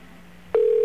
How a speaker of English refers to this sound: Oh, by the way, we're going to get a tone here first, and then it's going to turn into an operator. It's kind of a silly system, but that's the way they do it. Just waiting for the tone to go around is what we're doing. Here we go.